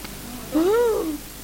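A single drawn-out cat meow, rising and then falling in pitch, lasting about half a second and heard clearly against a quiet background.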